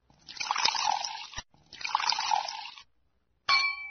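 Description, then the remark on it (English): Liquid is poured into a glass in two steady splashing pours, each lasting about a second. A short pause follows, then a bright ringing clink of glass. “You need a drink, and so do I.”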